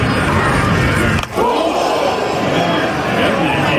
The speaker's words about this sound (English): That sound that you heard was not a bat hitting a baseball and the crowd reacting. Unfortunately, that was a 95-mile-an-hour fastball that hit Fernando Tatis Jr. square in the head. Oof. 95 miles an hour.